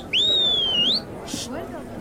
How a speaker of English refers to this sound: whistle the way you do when it grates on my nerves. Let's see if we can attract the boy's attention.